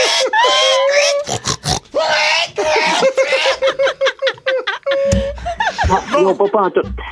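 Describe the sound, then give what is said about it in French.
A person imitates a frantic greased pig trying not to be caught at a greased-pig festival in Saint-Perpétue, letting out a rapid string of high squeals, snorts and grunts in a loud vocal performance, with snickering laughter mixed in. “Donc, je suis un cochon qui veut pas être attrapé au festival du cochon graissé.”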